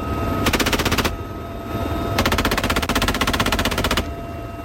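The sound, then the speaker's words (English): Two long bursts of rapid machine gun fire from a helicopter out at sea, firing at targets on an island, the first about half a second and the second nearly two seconds, each a fast, even stutter of sharp shots over a steady low rumble of engine noise. “Out at sea, helicopters would fly out and open fire with rockets and machine guns at targets on an island where, under the scenario, enemy forces were landing.”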